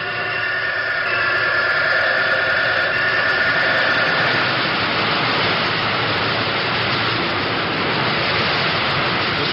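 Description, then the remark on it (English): An oil circulating pump that circulates oil around the bearing of a cyclotron's rotary condenser runs with a loud, continuous mechanical rush and hum, a steady drone with faint whining tones that never changes, and no voices. “This is the oil circulating device that circulates oil around the bearing of the rotary condenser, which is inside the machine.”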